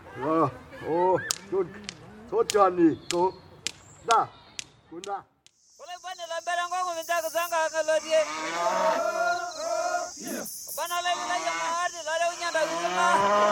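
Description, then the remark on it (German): A cow being held down by Maasai moos loudly, first in a string of short, strained calls with sharp snaps between them, then in a long, drawn-out distressed bellow over a hissing background. “wollen die Maasai die arme Kuh etwa vor unseren Augen schlachten?”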